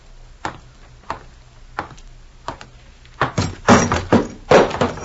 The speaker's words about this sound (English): She knocks over ashtrays, too, eh? Well, I'm sorry. I'm sure. I didn't see it.